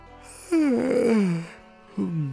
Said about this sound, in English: It sucks for people listening to me on their way to work, because they're probably like, what the fuck is he yawning about?